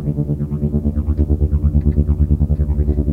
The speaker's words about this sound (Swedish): Oj, det blev liksom lite så här helikopter, flygplansljud. Ja, verkligen. Lite obehagligt nästan. Ja, det var lite obehagligt.